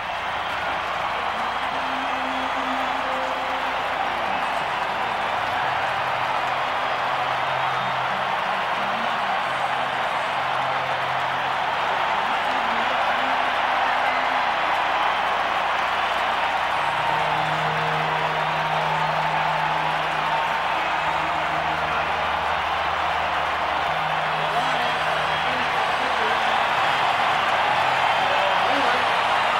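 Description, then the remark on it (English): A baseball stadium crowd cheering wildly at the World Series against the Atlanta Braves after Gene Larkin drives a fly ball to deep left center: a dense, steady roar of voices that holds at full strength for the whole half minute without fading. “And the crowd still going wild.”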